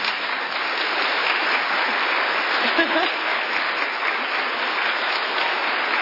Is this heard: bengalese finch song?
no